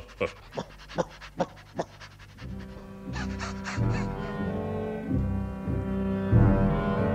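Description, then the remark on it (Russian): A large mastiff guard dog pants in a quick, even rhythm of about six breathy huffs, then a sustained droning, tonal sound takes over and builds until the end. “В этом домишке я поселю сторожевую собаку. Иди сюда, мастино.”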